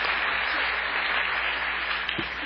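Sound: audience applause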